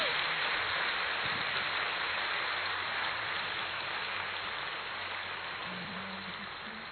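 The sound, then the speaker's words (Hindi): An audience at a yoga session in Madhuban applauds loudly and steadily on request, a dense wash of many hands clapping at once that holds its level for several seconds without any voices. “एक बार एक जोर से तालियां बजाएंगे, सभी जोर से तालियां बजाएंगे।”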